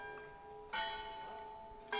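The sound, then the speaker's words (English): A church bell strikes 2 o'clock with two strong strikes about a second apart, each leaving a long, shimmering hum of overtones that carries between them, with no voices. “That's that bell.”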